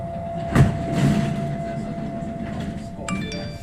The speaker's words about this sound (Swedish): Jag är på tunnelbanan just nu. Det är lite mycket folk här så kan inte jag ringa dig sen?